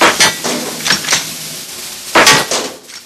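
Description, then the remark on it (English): A series of sharp BB rifle shots in a kitchen, each a crisp snap followed by a light clatter as four sports action figures lined along the edge of a laundry chute fall, spaced irregularly with a short pause before a final quick burst. “He takes aim and fires.”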